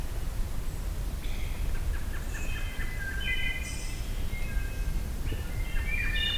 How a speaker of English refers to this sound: Heard a black-throated blue warbler.